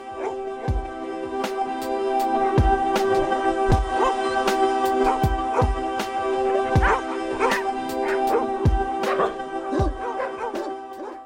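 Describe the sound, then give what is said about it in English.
A dog barks over and over in short, sharp bursts at a fairly steady pace, loud, with a sustained tonal backdrop running underneath the whole time. “Dog and officially radio's best friend.”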